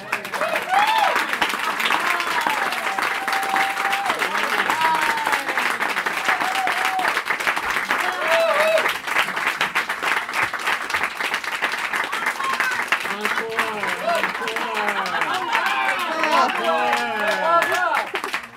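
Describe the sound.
Sustained applause from an audience, a dense steady wash of many hands clapping for the whole stretch, with a few voices and faint cheers threaded through it.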